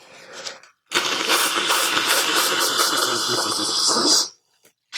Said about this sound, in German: Ich putze mir nochmal die Nase. Das klingt jetzt für euch sehr schön. Passt auf. Das ist noch besser als das mit den Karten.